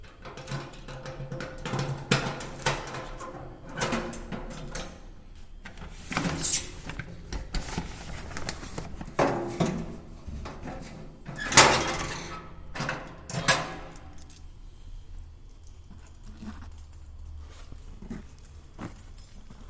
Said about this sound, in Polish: To jest ta klapa od wkładania listów. Teraz otwieram właściwym kluczykiem klapę do wyciągania.